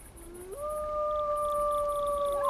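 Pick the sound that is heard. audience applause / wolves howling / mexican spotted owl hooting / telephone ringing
wolves howling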